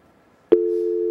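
A telephone busy tone cuts in abruptly after a brief click, a steady low-pitched hum that stays loud and close and continues unbroken to the end, with no talking.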